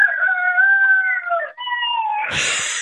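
A rooster crows loudly, one long strained call that breaks partway through and ends in a raspy, noisy flourish, with no other sounds around it.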